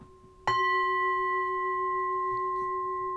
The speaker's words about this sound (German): Ich schlage diesen Gong.